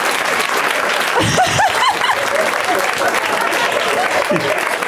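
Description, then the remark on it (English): A show audience applauds steadily with dense clapping after someone pulls out a movie title, punctuated by loud cheers and a few whoops rising above the noise, sustained throughout at a high level. “This show's come to the point where people cheer when somebody pulls out one movie.”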